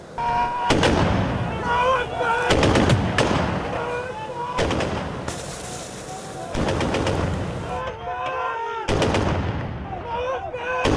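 impact, gunfire and explosions

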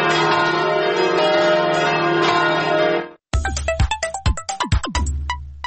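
signal or alarm, church bells ringing

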